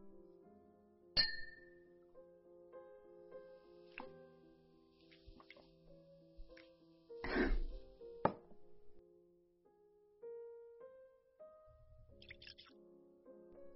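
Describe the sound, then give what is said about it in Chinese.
Glasses of alcohol clink together in a toast to years of friendship, a bright strike followed by lingering ringing tones, then a few more quieter taps and clatters spread over the quiet, unhurried scene with no talking. “那就为我们多年的这个情谊，干杯。”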